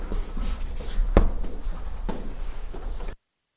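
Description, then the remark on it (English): A Hare Krishna pen scratches across paper as the word Shakti is written down, with short scraping strokes and a sharper tap partway through, continuing steadily for a few seconds with no talking. “I will write this down for you because this has something to do with strength.”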